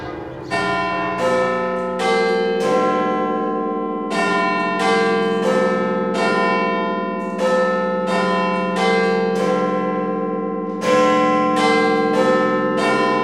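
The large church bells of Notre-Dame cathedral in Paris peal continuously, overlapping strikes in an uneven rhythm with long ringing tones that blend into a loud, resonant wash, no voices present.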